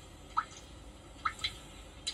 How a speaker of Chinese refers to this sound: 你哋听唔听到又有滴水声啊？ 有啊，声音好似好深沉喺地下。